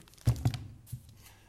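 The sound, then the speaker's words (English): Several quick papery rustles and soft thumps at the microphone, like sheets being handled and crumpled, in a short irregular burst with no one speaking. “Sorry, I'm having a little paper malfunction up here.”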